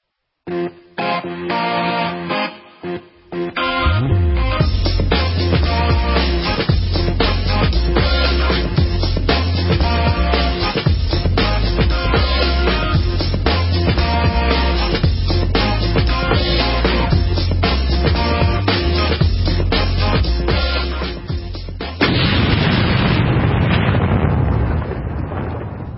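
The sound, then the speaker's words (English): A loud, fatal gas pipeline explosion in Lincoln County erupts after a few sharp bursts into a continuous, thunderous roar that rumbles steadily for about twenty seconds, then shifts to a rougher, hissing rush near the end. “They're investigating that fatal gas pipeline blast.”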